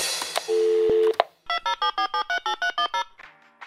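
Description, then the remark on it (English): A steady, low telephone line tone hums for about a second amid a few clicks, then a quick rhythmic run of about a dozen short electronic beeps at shifting pitches follows, as a call reaches the Wow in the World voicemail line before the record beep. “Thanks for calling Wow in the World. After the beep, get ready to record.”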